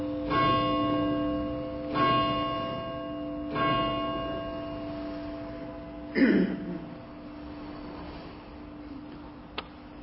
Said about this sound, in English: Do not ask for whom the bell tolls. It tolls for thee.